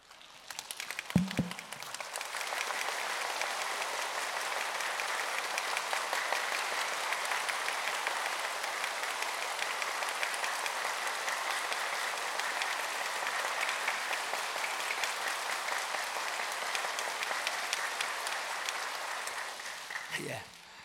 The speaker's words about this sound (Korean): 오늘 갈수록 할렐루야 찬양 은혜로운데 한번 박수합니다. 아 박수할 때 박수하는 것처럼 합니다. 자 장대박수 3주 안 했는데 준비하시고 장대박수 준비합니다.